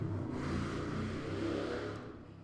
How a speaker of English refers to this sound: Hold for motorcycle. Hold for motorcycle.